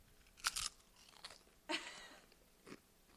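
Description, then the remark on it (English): Crunchy chewing: four or five irregular, crackling bites spaced across a few seconds, with quiet gaps between them and no talking. “Just stop chewing on my arm.”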